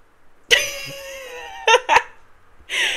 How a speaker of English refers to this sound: My cat, she has a lot to say.